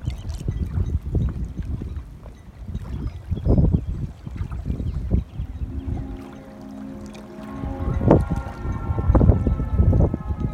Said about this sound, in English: And then in just a second here, you'll hear a blast from the ferry horn, which announces to the world that it's pulling away from the dock, headed out to sea.